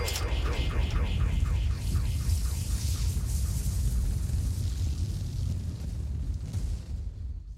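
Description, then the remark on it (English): Loud explosion sound effects in a C1 Radio jingle, with a heavy rumbling low end layered with warbling sweeps, roar continuously for several seconds before thinning out at the very end. “You don't like the explosions, the crescendo gravity.”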